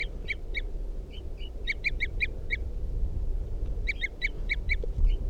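A bird, the Wild Bird numbered 305, gives rapid series of short, high, tooting calls in three bursts, responding to decoys, each run of notes quick and evenly spaced, over a low steady background rumble with no talking.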